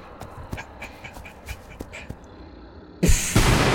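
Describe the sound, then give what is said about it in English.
After a few seconds of quiet, scattered clicks and soft rustling, a double-bladed lightsaber suddenly slices a door in two in a loud, harsh, crackling burst that fills the last moments. “Hear the door behind you get sliced in two by a double-bladed lightsaber.”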